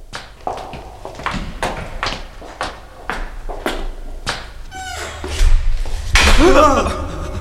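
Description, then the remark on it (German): A door slams shut with a loud bang near the end, followed by a creaking squeal, after a series of sharp, evenly spaced knocks or footsteps. “Die Tür wurde zugeschlagen.”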